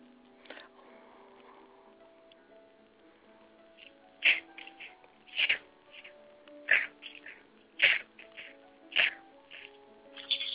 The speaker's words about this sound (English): Somebody sneezing.